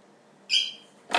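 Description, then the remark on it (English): A small dog lets out a high, thin squeak that holds for a moment, then a second, shorter and rougher squeal follows. Both are fairly loud, with no talking. “Little squeaky doggy.”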